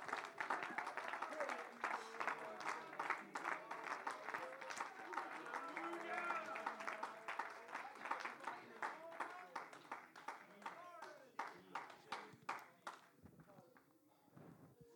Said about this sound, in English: Oh, give God a hand clap of praise today.